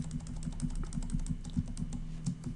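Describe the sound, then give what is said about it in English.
Steady, rapid typing on a computer keyboard, pressing Control C to copy a selected pivot item, a quick run of soft key clicks and taps, fairly quiet, continuing for a couple of seconds with no voices. “Control C on my keyboard once I have the entire open and close pivot item selected.”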